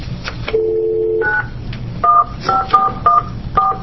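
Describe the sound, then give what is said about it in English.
Telephone dialing tones as a call is placed during a public hearing: a steady held tone, then a string of about six short touch-tone beeps at an uneven pace, clear over a low background hum, with no talking. “We are calling.”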